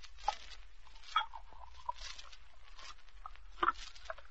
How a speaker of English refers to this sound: Get the glasses. And drop in the ice. Open the bottle. That's it now. Pour out the Coca-Cola.